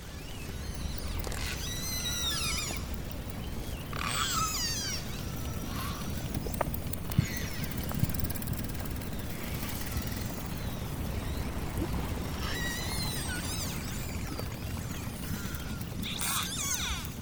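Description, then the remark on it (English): Underwater, pistol shrimps snap in a dense, steady crackle, with low grunting cod rumbling beneath and a few brief high sweeping chirps breaking through now and then. “This is the snap, crackle and pop of pistol shrimps, occasionally with the sounds of grunting cod.”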